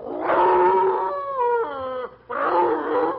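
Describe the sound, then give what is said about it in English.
A man's voice imitates Lee, an old postmaster's foxhound waking and coming out from under the porch in front of the post office: a loud, drawn-out baying wail with a wavering pitch that slides in the middle, a brief pause, then another bawling howl. “Our old postmaster had an old fox town called Lee. Lee wakes up, comes out from under the porch.”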